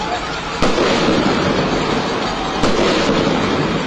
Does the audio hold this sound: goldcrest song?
no